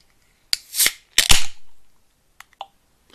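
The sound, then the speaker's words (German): A beer can is cracked open: a sharp metallic pop with a short rush of fizzing hiss, then a second louder pop and hiss, followed by two faint little clicks. No one speaks. “Das war auch eine Ach, Bierdose.”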